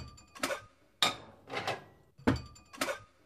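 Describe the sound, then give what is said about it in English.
Metal pots and pans clank and scrape in an irregular series of about six knocks, some sharp and ringing, others softer and brushing, as someone silently cooks dinner in the wrong pans, with no voices. “Mum has resigned herself to silent cooking in the wrong pans.”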